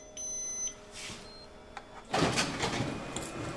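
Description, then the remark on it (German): A shared office printer in a hallway of a city administration chirps with a few electronic tones after a user logs in with a chip, then starts up with a loud mechanical whir and rattle as it runs steadily, with no one talking. “jetzt einen Chip, mit dem sie sich auf dem Gemeinschaftsdrucker im Flur einloggen kann.”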